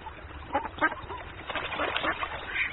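Two ducks swimming on a stream in a meadow quack in short, nasal bursts, a few scattered calls at first and then a busier run of overlapping quacks, over a soft, steady background.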